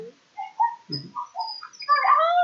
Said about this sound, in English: That is Charlie's greeting always. You can tell there's a little beagle in him, because as soon as he sees you, it's an instant howl.